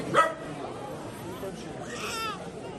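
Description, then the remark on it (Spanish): A dog gives one short, sharp bark near the start, then a brief whimpering whine later, over a steady murmur of voices in a Kyiv metro station where people shelter overnight from bombing. “Una manta, una mochila, un saco de dormir, algunos con niños, otros con el perro, tratando de conciliar el sueño al lado de perfectos desconocidos”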